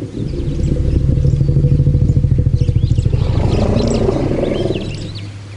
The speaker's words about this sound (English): it's emerged that wild African elephants may actually call each other by name. They use individualized calls. Have a listen to this.